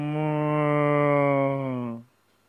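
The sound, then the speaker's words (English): A voice imitates the moaning of cows entangled in long vines in thick underbrush at Munjavat, with one long, steady, low moan lasting about two seconds, loud, before cutting off into silence. “Oh, cows have become moaning.”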